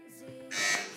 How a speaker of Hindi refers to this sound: अल हरम Islamic school ने पहले बजर बजाई है जनाब, जवाब दीजिए।